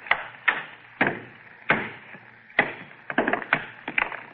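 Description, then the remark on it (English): A hammer strikes a meteor stone, almost solid metal, again and again to break it along a fissure: about nine sharp, ringing blows at an uneven pace, with a quicker flurry of hits near the end, splitting it clean in half, and no voices. “All I'm going to do is try and break it along this fissure. Get a hammer.”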